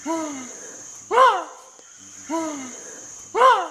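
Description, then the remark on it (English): Chimpanzee alarm calls given when scared by a fake snake: two pairs of harmonic, downward-sliding hoots, each followed by a louder, harsher bark, repeating about every second, over a steady high-pitched insect drone. “Listen to the sound that they make when they get scared by said fake snake.”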